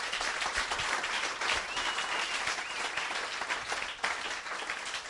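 A crowd applauds steadily, many hands clapping in a dense, continuous patter at an even, fairly loud level for the whole stretch, with no voices standing out.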